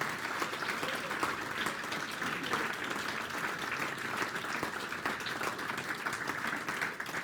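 A crowd applauds steadily for several seconds for a group of young men being introduced, a dense wash of many hands clapping at an even, sustained level with no speech over it.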